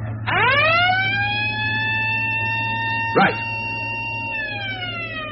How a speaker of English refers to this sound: Switch the alarm back on.